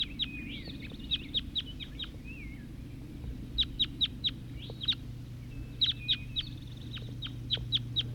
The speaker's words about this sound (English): Wild birds calling.